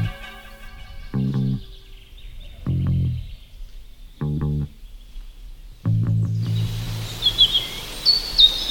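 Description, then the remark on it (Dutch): Woodland birdsong just after the rain has stopped, in a forest where beeches have overtaken Scots pines, with robins, a blackbird, a chaffinch, a black woodpecker and a great tit: high chirps and short trills rise over a rustling background in the final seconds, after several low, humming bursts. “Nou, we horen roodborsten, we horen merel, ik hoor een vink, ik hoor net een zwarte specht, ik hoor een koolmees.”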